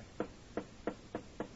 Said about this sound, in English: Here's the boss's office. Go ahead, knock, dear.